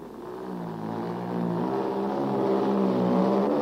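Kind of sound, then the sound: vehicle, racing car engine revving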